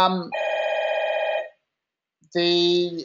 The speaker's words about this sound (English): Sorry about that. I've got a phone going off in the background. So hopefully someone will pick it up.